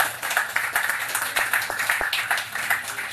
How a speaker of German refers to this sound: Ich glaube, auch das ist mal einen Applaus wert. Vielen Dank.